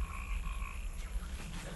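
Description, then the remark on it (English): Swamp ambience with frogs croaking steadily over a low, constant rumble of background noise, plus thin sustained chirping tones. Fairly quiet and even, with no voices. “Wandering through the swamp,”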